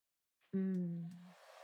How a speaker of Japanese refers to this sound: じゃあ髪の毛ドライヤーで乾かしちゃおうか。